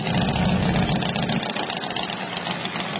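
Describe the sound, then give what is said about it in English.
Motorcycle engines idle together at the annual Sturgis Motorcycle Rally in rural South Dakota, in a loud, steady, throaty rumble, with a deep low throb easing slightly partway through. No one speaks. “The annual Sturgis Motorcycle Rally is kicking off today despite the pandemic in rural South Dakota.”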